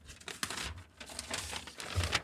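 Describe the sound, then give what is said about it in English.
Paper rustles and crinkles steadily for a couple of seconds, with irregular crisp bursts as sheets are shuffled and handled while someone searches for a sheet of paper. No one speaks. “Sorry for the wrestling. I found it.”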